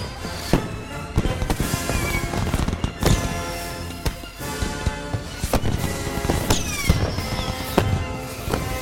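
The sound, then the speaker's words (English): Fireworks rockets burst in a rapid, irregular string of sharp cracks and booms, with whistling streaks sliding through the clatter, as sparks shower down on spectators; the popping stays loud and dense throughout, with no voices. “Sparks shower down on the spectators and on Rachel and Ranger Smith as they stand up in the water to see the crowd disappearing.”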